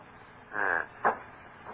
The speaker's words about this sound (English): Oh, what was that? Sounded like a door banging in the wind.